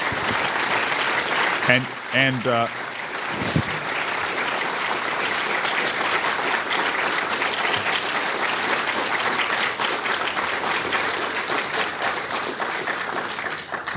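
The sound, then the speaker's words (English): Loud, sustained applause from an audience at the Commonwealth Club for Senator Harry Reid, a dense steady wash of clapping that continues for the whole stretch, with a brief voice cutting through near the start. “Please give a big warm round of applause and thanks to Senator Harry Reid.”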